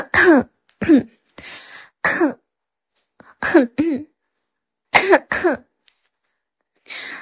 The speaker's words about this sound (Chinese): 然后呢，还有一些日常比较常用的清嗓子，或者是一些轻微的咳嗽声，它都是可以做到。